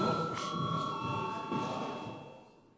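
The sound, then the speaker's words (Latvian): A parliament voting bell, rung because deputies requested a vote, sounds as a steady, sustained electronic tone with several layered pitches, holding for about three seconds before fading, over a low murmur of people talking. “Deputāti prasa balsojumu, lūdzu zvanu.”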